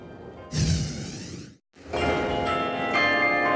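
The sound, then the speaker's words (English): Real bells in a tower near Hillsborough Street ring out loudly for the first time since the tower was built, with rich, overlapping tones, a long resonant peal that briefly cuts off and then resumes, sustained and full. No voices are heard. “Beginning just a few hours ago, the sound of actual bells rang near Hillsborough Street for the first time since the tower was built.”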